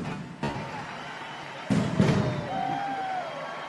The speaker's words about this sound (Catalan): La tornem a veure, la pirotècnia, que està ara mateix espaterrant el cel de Valls, el cel de la plaça del Blat. A crit d'eufòria ara mateix a la plaça del Blat per aquesta sortida de completes.